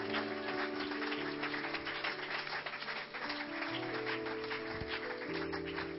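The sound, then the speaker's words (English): A church audience claps steadily and continuously throughout in praise of the Lord, a dense wash of hand claps over sustained low keyboard chords that shift pitch every second or so. “Clap for the Lord.”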